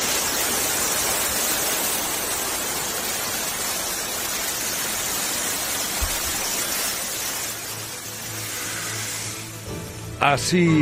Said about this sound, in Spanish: Es el sonido de la presa romana de Almonacid de la Cuba, Zaragoza, ayer, liberando agua para no desbordar. 2000 años y sigue ahí, funcionando como el primer día.